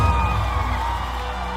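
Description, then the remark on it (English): A crowd cheers and whoops loudly in answer to a call for the lovers of Jesus to make some noise, a dense wash of many voices holding at a steady roar for the whole stretch, with a few higher shouts standing out on top. “All the people who know you've been redeemed, make some noise.”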